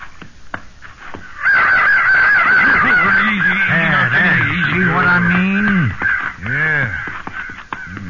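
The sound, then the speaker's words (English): A flock of crows caws loudly and continuously, harsh overlapping calls filling the air for several seconds, with a few sharp clicks and knocks at the start. “Crows. Sure are.”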